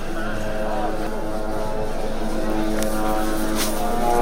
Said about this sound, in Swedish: And that drone is hovering. Makes me crazy. Israeliska drönare surrar över sjukhuset där Sveriges Radios medarbetare